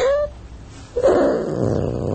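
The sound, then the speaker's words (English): A recording of a person with sleep apnea snoring loudly while sleeping on mushrooms, a raspy, growl-like rumble: a short whiny tone first, then a long gravelly rattle that drags on without talk. “That's you sleeping on mushrooms. I recorded it.”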